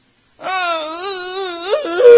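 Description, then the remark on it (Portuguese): A voice imitates a child's whiny fake crying: one sustained, wavering wail that climbs higher and more pleading at the end, fairly loud, with no other sounds. “E começa aquela coisa, não é? Aquele choro falso.”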